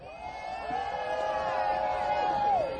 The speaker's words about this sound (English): So we need, there's like, how many people here? 2,000 or 3,000 or 4,000 or, I don't know. There's a lot of people here. And yell if you're here.